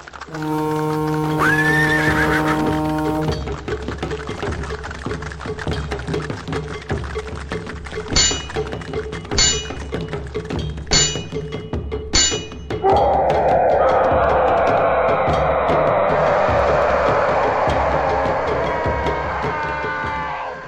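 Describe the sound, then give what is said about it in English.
A horse whinnies at the start, then a rumbling cavalry charge of lance-armed knights on barded horses against orcs surges in, with a run of sharp metallic armor clanks midway as the orcs fall on dewy grass, before a dense, roaring clamor carries to the end. “Each of the steel-tipped lances of the Knight's Panther pierced an orc through, and their barded mounts knocked the skewered greenskins off their feet, each clanking as they hit the dewy grass below.”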